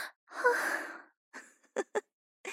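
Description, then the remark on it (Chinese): A woman's heavy breathing: a long, drawn-out breathy exhale, then a run of short, quick panting breaths at an uneven pace, with no talking. “那为什么阿姨你的喘息声越来越重了呢？”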